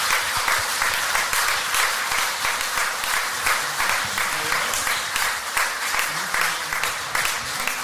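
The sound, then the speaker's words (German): A crowd applauds steadily for several seconds, a dense, even wash of many hands clapping at once with no break and no voices standing out. “Und jetzt nochmal ein herzlicher Applaus.”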